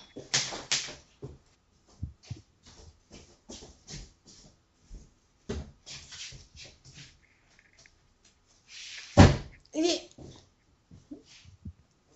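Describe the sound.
A door, opened with a key but held by a latched inner lock, rattles and clunks against it in a string of sharp metallic clicks and knocks, with one heavier jolt near the end and faint voices in the background.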